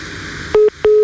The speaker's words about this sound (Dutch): Ondertussen hoor je die piep piep. Er zit een andere beller tussendoor, maar die heeft pech.